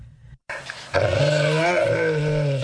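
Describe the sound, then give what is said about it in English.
A dog growls steadily and loudly behind a teething baby it watches over, a sustained rumbling snarl that begins after a short pause and continues without break to the end. “He growls behind her teething figure through the day, ready to curb her frolics if he thinks them dangerous.”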